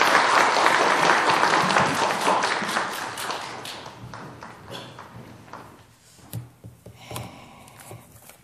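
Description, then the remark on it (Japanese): A crowd breaks into loud, dense applause to bless a couple after a prayer, gradually thinning out over several seconds and leaving a few scattered claps and taps near the end. “では皆さん、もう一度盛大な拍手を持って祝福してください。”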